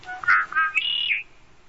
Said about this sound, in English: Or conkeree is the sound of a male red-winged blackbird in the cattails. Here are typical calls, whistled notes, and some check sounds from a marsh in the Bulkley Valley.